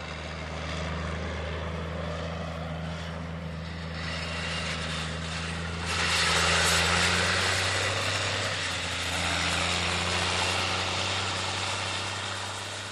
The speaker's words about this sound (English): A four-wheel drive tractor rounds the end of the field, a Steiger pulling a sunflower field cultivator.